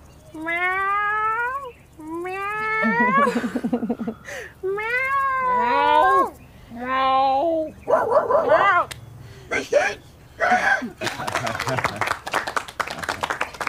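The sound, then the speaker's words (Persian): A person imitates a cat, giving about five drawn-out, wavering meows in a row, close and loud, before the sounds break into rougher, noisier vocalizing toward the end. “آقا من میتونم صدای گربه در بیارم.”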